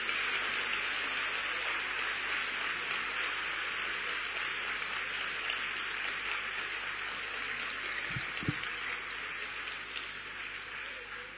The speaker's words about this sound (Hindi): आपको आपकी diamond jubilee की बहुत बहुत मुबारक हो और आपको अपनी गोल्डन जुबली की बहुत बहुत मुबारक हो। खूब तालियां बजाओ, बाबा भी सुने वो तालियां।